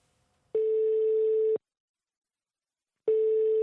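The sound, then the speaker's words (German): A steady telephone line tone sounds in two loud, one-second bursts separated by a gap of silence, a single sustained mid-pitched hum with faint harmonics, no one speaking, as theologian Tomáš Halík answers the phone at his home in Prague's Old Town. “Bei sich zu Hause in der Wohnung voller überquellender Bücherregale geht er ans Telefon.”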